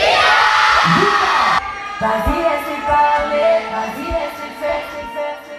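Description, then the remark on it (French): A live audience at a radio station's stage show cheers and shouts loudly as an act is welcomed onto the stage, with a dense roar at first, then scattered whoops and yells continuing as the noise settles somewhat. “c'est vous qui allez crier, on accueille sur la scène du Radio 6 Live”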